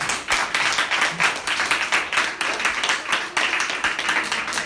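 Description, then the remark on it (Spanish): Sustained audience applause, a dense steady wash of many hands clapping with no pauses, fairly loud throughout and without voices. “Muchísimas gracias, un fuerte aplauso.”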